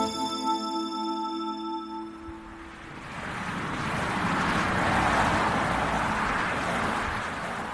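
Highway traffic in the state of Maryland, USA, roars past alongside on a steaming hot sunny morning, a steady engine hum giving way to a broad rushing whoosh that swells loudly and lingers as vehicles speed by, with no voices.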